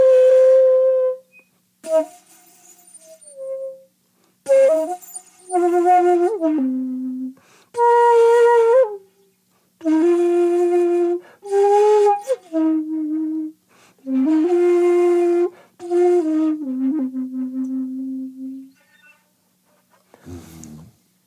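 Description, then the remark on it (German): A Japanese shakuhachi flute, 54.5 centimetres long, plays slow, breathy held notes in separate phrases, mostly mid-pitched and sinking lower toward the end, with brief pauses between them and no talking. “Die Flöte ja. spielt sozusagen im Sinnlichen ganz mit.”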